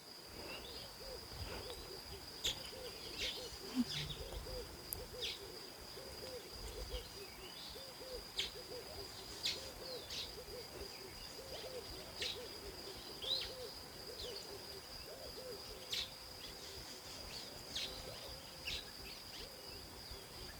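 A dense tropical soundscape of many birds of many different species calling at once: scattered sharp chirps and lower hooting calls over a constant high insect drone, with no voices.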